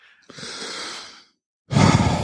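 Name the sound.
heavy breathing into microphone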